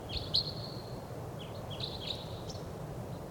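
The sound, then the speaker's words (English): A male wild bird calls several times in thin, high chirps and short whistled notes over steady low outdoor rumble and faint rustling. No one speaks. “There he is, calling.”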